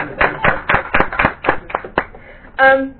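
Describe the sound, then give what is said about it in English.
A group of members clapping their hands in brisk, fairly regular applause for a department that received an unqualified audit opinion for the first time in 16 years, which fades out as a man's voice begins speaking at the end. “And the department should be, I think the members should clap hands for the department.”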